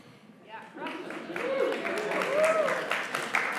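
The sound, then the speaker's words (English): An audience breaks into scattered clapping that swells after a moment into steady applause, mixed with murmuring voices and a few raised exclamations, moderately loud. “I'm not easily offended, but I know what that clap meant.”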